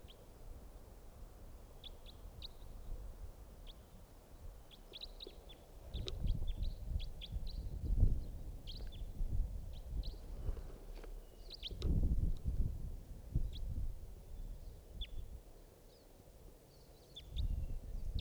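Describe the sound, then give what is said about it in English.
Faint, distant bird calls: short chirps repeating irregularly throughout, set against a low rumbling outdoor background that swells now and then. No one speaks. “It's a type wild bird in the distance.”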